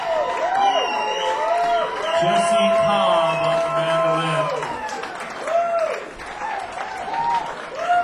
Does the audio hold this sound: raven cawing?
no